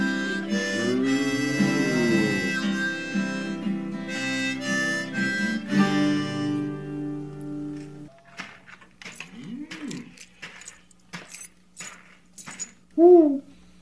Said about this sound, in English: was that a real hoot owl? Yep.